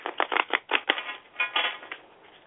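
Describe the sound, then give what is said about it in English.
A deck of tarot cards being shuffled during a tarot reading: a quick run of papery riffling bursts and soft flicks, uneven in rhythm and fading slightly toward the end, with no voices. “Okay, I'm going to start shuffling the cards while you just talk to me for a moment, and you tell me when you feel it's the perfect moment for me to stop shuffling.”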